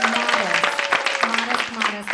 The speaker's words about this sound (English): Let's hear for that program. I just want to clap after that.